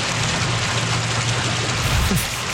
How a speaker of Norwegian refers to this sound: Det lyden av vann, jeg vet ikke om du hører det.